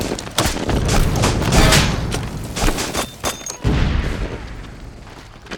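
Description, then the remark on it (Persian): Mortar shells explode again and again, loud, with rapid gunfire crackling between the blasts, as a front-line position with wounded comes under a mortar barrage. The barrage rolls on continuously, and no one speaks. “پنجم شش، ما اینجا زخمی داریم، خطم خمپاره بارونه، هنوز خبری از نفرات نیست.”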